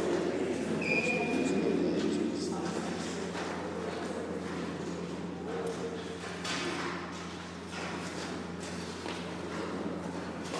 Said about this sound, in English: And the train you'll hear beneath your feet. First train to come through here were steam trains in 1869.